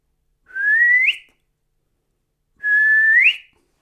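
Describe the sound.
Two clear human whistles trying to call birds, each a steady tone sliding upward at the end, separated by a short silent pause. No one speaks.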